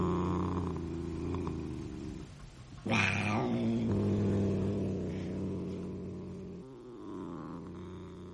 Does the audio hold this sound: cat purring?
yes